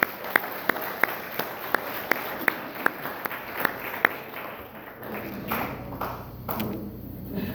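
A small group applauds at a meeting, with sharp, evenly spaced claps standing out over a wash of clapping, then thinning into scattered claps and background murmur.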